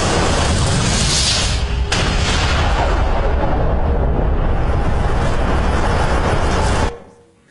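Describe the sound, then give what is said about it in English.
A massive explosion sound effect depicting the Big Bang, the universe bursting into existence: a loud, deep roaring boom that rumbles steadily for about seven seconds before cutting off abruptly into near silence. No one speaks. “Follow the clues, and we can deduce that a very long time ago, the universe simply burst into existence. An event called the Big Bang.”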